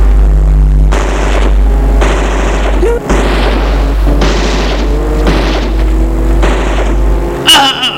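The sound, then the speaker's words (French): Sharp, loud gunshots burst out at uneven intervals over a steady, deep engine rumble of a car driving toward a fleeing woman, who is hit in the back by a bullet, with one last crack near the end; no one speaks. “Elle a reçu une balle en plein dos, tombe à terre.”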